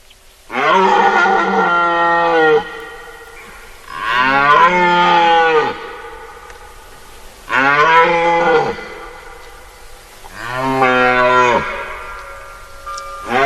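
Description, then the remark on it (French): A red deer stag bellows four times during the rut. Each call is long, deep and resonant, with a strained, groaning tone, loud, spaced a couple of seconds apart with no talking. “En fait, pendant notre sortie, nous entendrons plusieurs cerfs bramer, le cerf dominant, le plus fort, et les cerfs satellites,”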